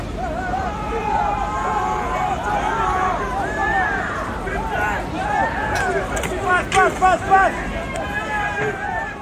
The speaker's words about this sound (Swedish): Det var något oväsen utanför. Folk skrek och många av människorna ute på gatan ropade "Gendarm! Gendarm!" Ungefär "Polisen kommer."